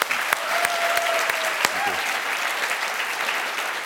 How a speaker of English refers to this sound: Really nice job, SmartArm. Really, really cool. How about an additional round of applause for these guys?